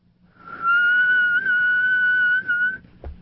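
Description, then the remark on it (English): A person whistles, holding one long, steady note for about two seconds with slight wavering in pitch, with no talking; a soft click follows as it stops. “My whistle is a little dry right now. Deep whistling is difficult.”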